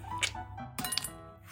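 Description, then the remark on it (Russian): A container of melon, frozen for an hour and a half, is pulled out of a freezer, giving a few sharp clinks and clatters with a faint hum underneath, all over in a moment, with no voices. “Сейчас я лед достану.”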